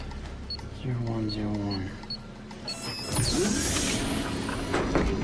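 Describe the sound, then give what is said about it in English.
A sliding door to an armory opens with a smooth mechanical whoosh that swells and lingers, following a short humming electronic tone a few seconds earlier. “Madeline grins and pats Sam's shoulder as the door slides open.”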